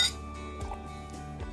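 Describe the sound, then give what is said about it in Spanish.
A bright glass clink rings out at the start as glasses tap together in a toast at a dinner with flowers and candles, then its clear tone hangs and slowly fades over soft background noise. “Siento como que falta un brindis.”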